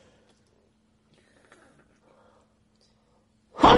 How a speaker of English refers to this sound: Bless you.